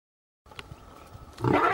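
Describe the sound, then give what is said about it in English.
A lion's roar bursts in loud near the end, a deep rough growl that follows a brief stretch of low, rumbling breathy noise. No one speaks. “Ahead, dentist versus lion.”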